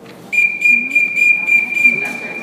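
A loud, shrill whistle sounds at an archery class for teachers in training, held for about two seconds with a rapid, regular pulsing warble through it; no one speaks.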